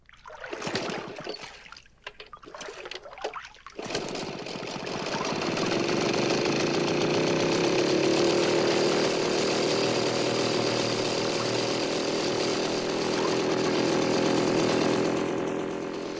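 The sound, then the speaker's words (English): An outboard boat motor, just hooked up to a second tank of gasoline around noon under a hot sun, sputters and coughs for a few seconds, then catches and settles into a loud, steady engine drone that runs without a break to the end. “the first tank of gasoline is empty. It's okay, Flipper. Nothing to worry about. I'll just hook on this second tank of gas”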